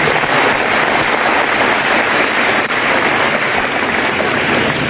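An audience breaks into loud, sustained applause, a dense wash of many hands clapping at once that holds steady for about five seconds without letting up.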